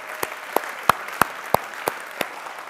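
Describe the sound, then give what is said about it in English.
Audience applause during a standing ovation for veterans, in a steady rhythmic beat, about seven sharp claps evenly spaced roughly three per second, ringing out over a soft, continuous crowd murmur with no speech. “let's rise to our feet and applaud these veterans.”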